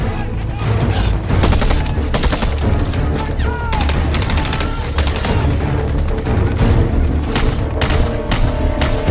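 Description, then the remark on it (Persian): Loud machine gun fire from a team firing toward the north rattles almost nonstop in dense rapid bursts, overlapping into a chaotic barrage with occasional heavier booms mixed in. “تیم کرکس شما شلیکاتونو به سمت شمال متمرکز کنید.”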